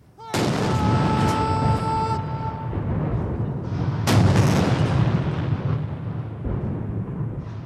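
Heavy cannon booms fire one after another in a ceremonial 70-round salute at Tiananmen Square in Beijing, China, marking the 70th anniversary of a victory, two sharp blasts standing out, each followed by a long rumbling echo across an open space.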